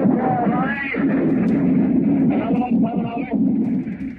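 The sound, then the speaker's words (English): Artillery shelling on the beach on D-Day rumbles steadily in a dense, low roar with no clear pauses, while a voice talks faintly underneath the din. “We can see the smoke and results of our own shelling.”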